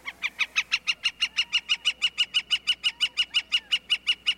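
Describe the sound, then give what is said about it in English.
A gilded flicker, a large, tawny woodpecker, calls in a fast, steady series of loud, ringing notes, about twenty in a row without a break, atop a saguaro cactus in the Arizona desert, with no other sounds around it. “The bird is a gilded flicker, and the cactus is a saguaro, the tall cactus with upswept arms emblematic of the Arizona desert.”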